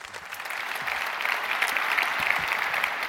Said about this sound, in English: Please give them a huge warm welcome with an applause.